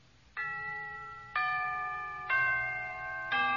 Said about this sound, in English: Can you tell what part of the hour it is from the tolling of the characteristic phrase of the Westminster chimes that we're now going to listen to?